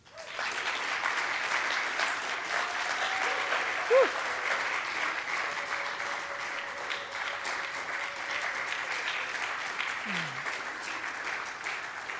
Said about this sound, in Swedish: Kan inte United få en till applåd?